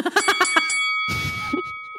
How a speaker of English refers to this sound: That was our timer.